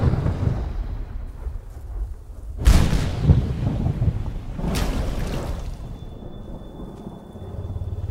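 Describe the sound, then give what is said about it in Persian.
Steady rain hisses in the distance, with two deep rolls of thunder breaking through midway, one sharp and another softer a couple of seconds later. No voices. “صدای باران از دور دست.”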